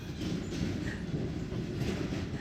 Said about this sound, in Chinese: 等一下，我们有一辆椰子车路过。